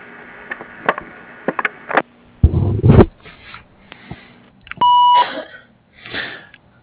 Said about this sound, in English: Sorry, we're not able to take your call right now, but if you leave your name and your number at the sound of the beep, we'll get back to you as soon as we can.